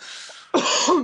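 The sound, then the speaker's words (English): A single short cough or throat-clearing burst, harsh and loud, following a brief stretch of soft breathy noise, with no talking; the cough is made to reset a microphone's auto-gain. “Remember tomato cough to reset the auto-gain thing?”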